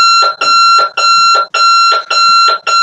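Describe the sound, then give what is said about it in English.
A loud, harsh alarm clock beeps in rapid, insistent bursts, about five or six pulses with short gaps, a jarring electronic tone ringing out alone with no talking. “You've all heard that alarm.”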